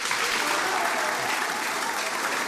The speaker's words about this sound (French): S'il vous plaît, ça s'applaudit, ça se remercie.